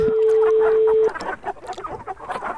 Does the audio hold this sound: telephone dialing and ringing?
no